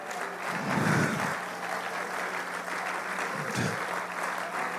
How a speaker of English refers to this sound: Somebody needs to clap their hands right now.